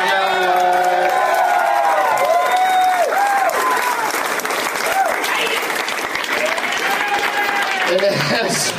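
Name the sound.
audience cheering and yelling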